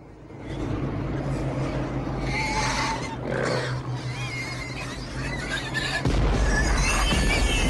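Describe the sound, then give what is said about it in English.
Pigs, pushed out in crates and drifting down on parachutes, squeal in shrill, wavering bursts over the loud, steady low engine drone of the transporter, which swells near the end. The squealing is continuous, with no talking. “The pigs drift down on their parachutes.”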